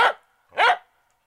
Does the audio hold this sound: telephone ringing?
no